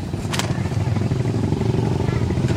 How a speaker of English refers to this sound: Motorcycles going by are all Chinese four-strokes with roll bars and wind fairings and mud flaps, fake snow leopard skin seats decorated with flying tassels and painted with eternal knots, swastikas, lotus blossoms, and flames.